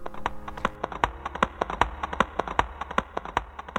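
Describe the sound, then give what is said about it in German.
Horse hooves clip-clop at a brisk, steady pace, a run of sharp hollow knocks, with no voices over it. “Da sie aber nicht kamen, so setzte er sich auf sein Pferd und ritt durch das Himmelstor hinab in die Unterwelt.”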